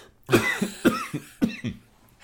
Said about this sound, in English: I'm going to cough for a minute. Excuse me. I always cough when I talk about Dr. Fauci.